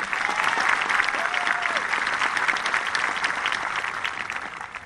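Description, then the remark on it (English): A crowd at a 2025 graduation applauds the salutatorian and valedictorian, a dense wash of many hands clapping at an even, loud level throughout, with a brief faint tone rising and falling partway through. “Please give these outstanding students one last round of applause.”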